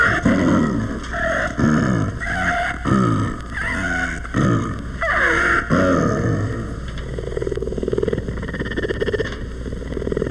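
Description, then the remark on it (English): The San Diego Zoo's rare snow leopard, Tibet the Second, growls in a series of rough, rhythmic, loud bursts, each broken by a strange rasping intake of breath, then settling into a lower continuous rumble. “This, with its peculiar inhalations, is the growl of the San Diego Zoo's rare snow leopard, Tibet the Second.”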